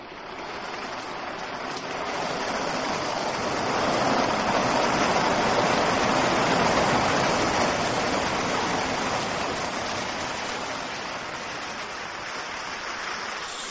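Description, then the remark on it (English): Steady, dense rainfall hisses continuously, swelling slightly in the middle before easing back, a broad wash of drops with no voices present. “Rain? Well, yes.”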